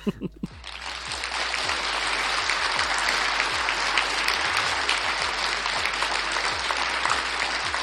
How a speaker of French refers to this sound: Merci. Ah putain, je me suis cogné en acceptant vos applaudissements.